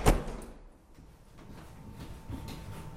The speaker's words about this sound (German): sagt Grattinger und schließt die Tür des Leichenwagens